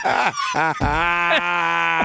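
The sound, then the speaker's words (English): A goat bleats loudly: two short wavering cries, then one long, quavering bleat that carries on for well over a second. “So we do need to, speaking of goats.”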